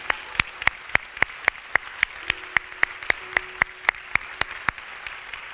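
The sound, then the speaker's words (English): An audience applauds, giving God a hand clap of praise after a prayer, with sharp, evenly spaced claps in a steady rhythm rising above a continuous wash of clapping and room noise. The sound is fairly loud, with no speech. “Give God a great big hand clap of praise.”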